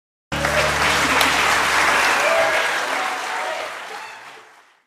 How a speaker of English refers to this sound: I've taken the liberty to help you out. Listen to the very end of the applause.